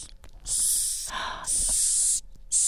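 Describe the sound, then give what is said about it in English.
A hissing cockroach taken from its container gives three loud, breathy defensive hisses, each a harsh burst of air lasting about half a second to a second, with a lower, rougher rasp between the first two. “Okay, we can hear that. Yeah. It is hissing. That is their defense mechanism.”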